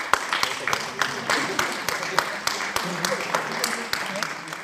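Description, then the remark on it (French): An audience applauds the second-prize winner of a children's painting and drawing contest: many hands clapping in a dense, irregular patter that stays steady and fairly loud for several seconds, with no clear voices over it. “On peut l'applaudir”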